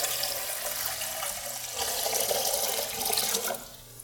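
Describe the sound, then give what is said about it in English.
Water pours steadily into a baptismal font during a baptism for a few seconds, a continuous splashing rush that swells slightly midway and then thins out as the stream tapers off. No voices are heard. “We thank you, Father, for the water of baptism.”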